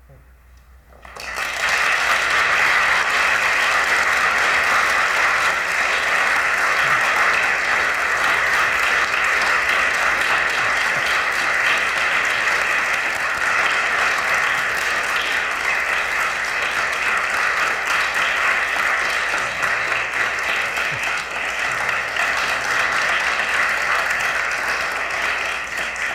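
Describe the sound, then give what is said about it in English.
Sustained, loud applause from a large crowd, starting abruptly after a brief quiet moment and continuing steadily as a dense wash of clapping for over twenty seconds. “Applause really says it all, but maybe I can just say one more thing”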